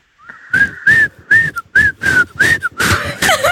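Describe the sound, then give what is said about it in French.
A person whistles a short song melody for others to guess, a string of breathy, separate notes in a steady rhythm, ending with a few quick sliding pitches. No one talks. “Il sifflait, on l'a dit, pas soufflé.”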